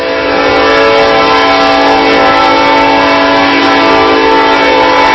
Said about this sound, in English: As another train makes its way through here, I think we're going to have this one coming from our right to our left.